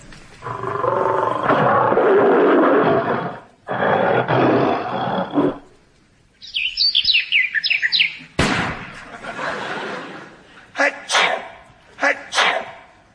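Two long, loud roars from a big cat like a lion, followed by a quick run of high bird chirps, a sudden thump, then two sharp sneezes spaced apart.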